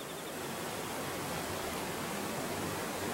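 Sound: waterfall rushing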